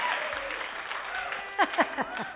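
An audience applauds a singer after her song, clapping steadily in a dense, even wash of applause, with a few short whoops and cheers rising above it toward the end.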